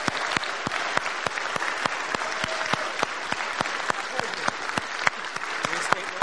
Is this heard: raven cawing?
no